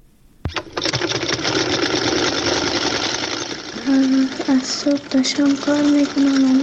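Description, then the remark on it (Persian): An embroidery sewing machine in an embroidery workshop in Afghanistan starts up after a brief pause and runs with a steady, dense mechanical whir. About halfway through, a voice begins speaking over the constant machine noise. “او به رادیو آزادی گفت در یک کارگاه گلدوزی کار می کند”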